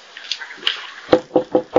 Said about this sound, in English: There's a knock on your door.